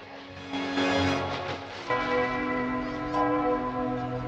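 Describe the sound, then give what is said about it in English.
A church bell in Venice is struck twice by the beater of a sculpted clock tower figure, about a second and a half apart. Each loud clang leaves a long, shimmering ring that hangs in the air, with no voices. “In Venice, a sculpted man moves from side to side, his arms holding a beater that strikes a church bell.”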